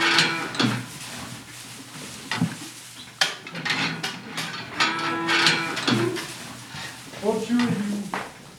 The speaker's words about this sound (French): On visite nos nouvelles acquisitions, c'est des vaches Highland, pour des vaches de petite taille très très rustiques, qui vont remplacer des vaches plus grandes qu'on avait jusqu'à présent.